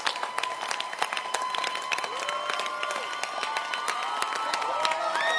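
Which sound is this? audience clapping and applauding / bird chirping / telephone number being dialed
audience clapping and applauding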